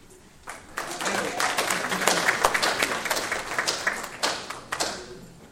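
An audience applauds, a dense patter of many hands clapping that swells after the first half second, holds steady, then thins out toward the end.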